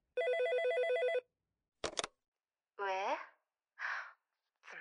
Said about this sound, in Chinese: 电话来呀，催催催就知道催。